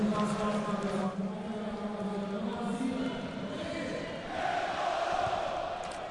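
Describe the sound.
A large crowd of Swiss football supporters chants in unison the name of Embolo as he is substituted off in the second half, a sustained, loud roar of massed voices holding drawn-out syllables, swelling again toward the end.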